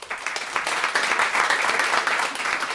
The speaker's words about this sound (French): qu'on peut applaudir.